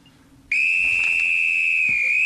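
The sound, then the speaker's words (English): A loud whistle blast, blown as a signal for children to freeze, cuts in after a brief quiet moment and holds one steady, shrill pitch for nearly two seconds without a break. No voices are heard. “the next time you hear this whistle”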